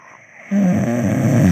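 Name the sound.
person imitating a snore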